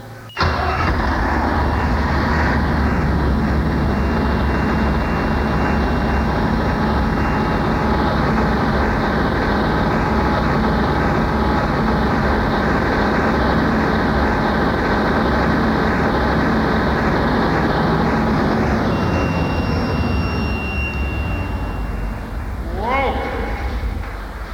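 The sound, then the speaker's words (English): A large turbocharged engine of roughly 400 horsepower, its block kept warm at about 100 degrees, cranks briefly, then catches and settles into a loud, steady rumble with a rising whine on top, running for about twenty seconds before winding down. “Turbocharged, and I'm thinking the horsepower is in the range of 400”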